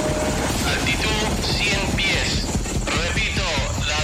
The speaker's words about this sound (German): Sie flogen in Black Hawk-Hubschraubern.